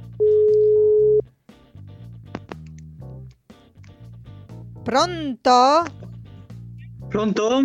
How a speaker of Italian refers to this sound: Adesso allora io lo chiamo. Chiamata in corso. Squilla, quindi.